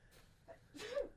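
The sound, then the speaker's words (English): A single sneeze, preceded by a couple of quick, sharp inhales, then a breathy burst with a voiced edge. It is fairly soft and no one speaks. “Bless you.”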